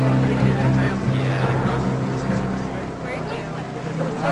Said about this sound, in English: A pickup truck passes her.